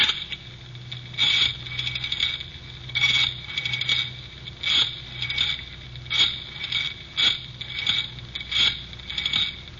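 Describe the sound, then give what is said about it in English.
A rotary telephone being dialed: a string of short ratcheting whirrs and clicks, each return spin followed by a brief pause, repeating steadily with no voices. “I better phone the place.”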